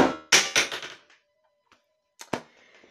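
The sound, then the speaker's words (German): A game controller drops to the floor and clatters, bouncing several times in quick succession before going quiet. A couple of sharper knocks follow a moment later, then faint rustling. “Ja, mir ist gerade der Controller runtergefallen.”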